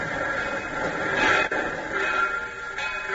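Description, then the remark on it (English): A steady rumbling, hissing roar of a train pulling into the station at Carbondale, Illinois, past midnight, with a bright metallic screech swelling briefly in the middle as it slows, fairly loud, no voices. “It is past midnight as his train pulls into Carbondale, Illinois, some 20 miles from the Logan home in Marion.”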